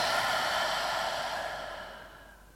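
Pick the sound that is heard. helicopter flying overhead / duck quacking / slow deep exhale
slow deep exhale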